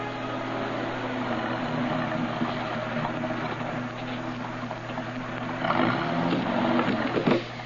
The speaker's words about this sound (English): When this proved unsuccessful, I drove the rest of the way home, arriving there 10 minutes later.